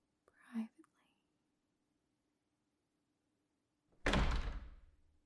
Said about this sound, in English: Why don't I close the door so we can speak a bit more?